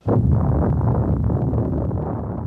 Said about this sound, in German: Das ist das Originalgeräusch der ersten Atombombe, die im Juli 1945 in der Wüste von Neumexiko explodiert ist.